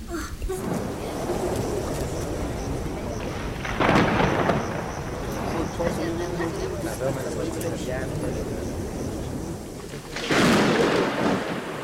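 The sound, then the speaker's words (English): Rolling thunder rumbles through a steady stormy wash, swelling into two louder crashes several seconds apart, with indistinct voices murmuring underneath. “The thunder of God's rage will strike.”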